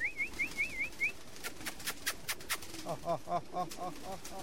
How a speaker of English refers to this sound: 7 years ago, he asked his brother to send him some pigeons from their family coop in the Punjab province. He got 12 pairs of Pakistani high flyers, graceful white pigeons with dark heads and tails.